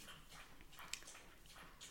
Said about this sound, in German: Mein Hund trinkt übrigens gerade Wasser, also falls man das, ich weiß nicht, ob man es in der Aufnahme hört, aber es ist so, sind nicht wir. Relativ sind nicht wir. Sind nicht wir. Ich schlabbere hier kein Wasser gerade weg, sondern es ist die Mini.